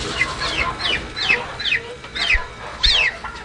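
A turkey squawks loudly and repeatedly, about six sharp, descending cries in quick succession over a rustling background, agitated, as a staff member grabs it by the legs in a large pen of ducks, geese and turkeys.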